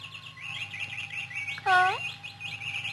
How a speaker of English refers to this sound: Those birds, I don't like them.